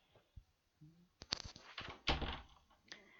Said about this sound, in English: So, behave yourself. Now, let me lock the door.